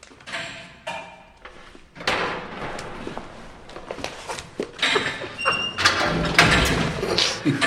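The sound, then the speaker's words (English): A heavy metal prison cell door is unlocked and pulled open by a guard, with rattling clanks, scraping, and a few loud bangs, followed by a ringing metallic squeal and busy background noise from a corridor lined with guards and prisoners. “Bobby's standing in a clean cell in normal light, facing the door, when a guard opens it and steps out to where more guards and prisoners line the corridor.”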